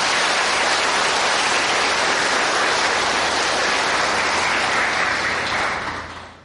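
A crowd claps steadily in a dense, sustained burst of applause that holds strong for several seconds before fading out at the end, with no voices over it.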